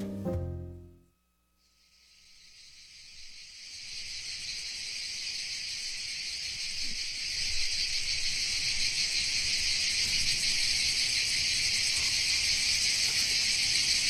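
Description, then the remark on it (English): After a brief moment of quiet, a dense, high-pitched buzzing of cicadas swells in and holds steady and loud, a continuous droning chorus with no voices. “Spring is approaching, and soon the buzz of cicadas will permeate throughout neighborhoods in the eastern half of the United States.”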